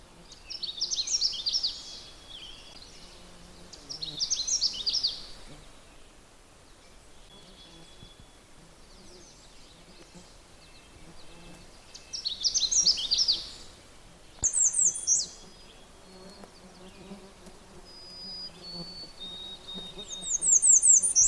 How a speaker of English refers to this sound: You hear that really hard sound, dee dee dee jim. It's a redstart, which is a warbler, orange and black, males, just beautiful.